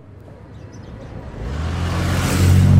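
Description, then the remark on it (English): An Aston Martin sports car engine revs up and grows steadily louder over a few seconds, its deep growl swelling into a strong roar, with no voices. “Wow, an Aston Martin. That's a really expensive car.”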